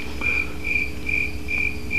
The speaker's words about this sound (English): There's crickets. Insert theme music here. Dance to it loudly. I'm just gonna leave the crickets as the theme music.